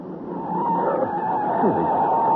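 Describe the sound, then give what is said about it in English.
A car skids with a sustained, loud screech of tires over a rumbling engine roar, continuous for a couple of seconds, as its brakes and handbrake fail to hold. “Brakes aren't holding right.”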